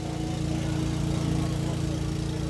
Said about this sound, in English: Farther along, a truck is pumping water into a huge bladder. It's 20 feet square and 6 feet high. It's the camp's water supply.